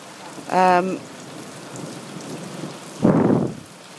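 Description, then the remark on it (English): Heavy rain pours steadily throughout, and a short, loud rumble of thunder bursts through near the end. A brief voiced call rises over the downpour early on. “And we've got a little bit of thunder as well.”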